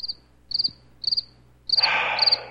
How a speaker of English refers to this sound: Mike, could I have some more crickets, please?